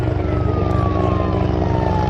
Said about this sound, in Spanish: Esto que oyen es un helicóptero descargando agua para extinguir un incendio. Lo hemos oído esta mañana en la dehesa de Collado Villalba, pero no se preocupen, de momento no se ha quemado nada y queremos que siga así.